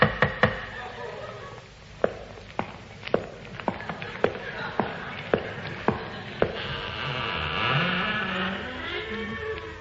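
About a dozen sharp knocks on a door come in a steady, unhurried rhythm. A rising, whirring mechanical drone then takes over as the knocking stops.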